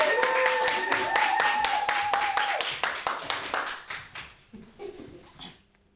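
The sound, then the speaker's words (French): An audience applauds a slam performance: dense, steady clapping with a sustained high cheer over it at first, then the applause thins and fades out over the last few seconds. “C'est un tour d'applaudissements pour les rester groupir, s'il vous plaît. On peut les applaudir bien fort.”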